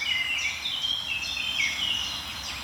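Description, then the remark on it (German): Eurasian nuthatches calling in a forest, a steady, overlapping stream of high, bright notes. The repeated calls carry on without a break over a low background hum. “Die Kleiber drehen wieder auf. Die waren lange Zeit relativ unsichtbar.”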